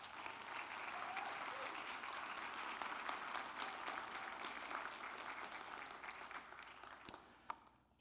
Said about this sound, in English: But not only do we want to celebrate her birthday, but I would love to just publicly celebrate a woman of courage and perseverance. And I would like for you to give her a round of applause.